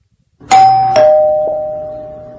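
A doorbell chimes with a few quick struck tones, stepping down in pitch, then rings out in a long, slowly fading hum with no voices.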